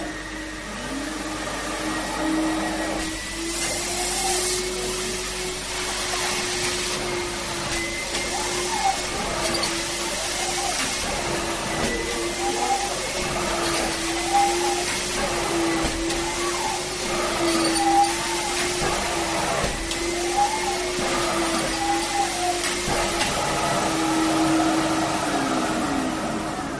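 A wet vacuum extracting water, set to three speeds, runs steadily with a loud motor whine and hissing, gurgling suction that rises and dips in a regular rhythm as the nozzle is pushed back and forth about ten times.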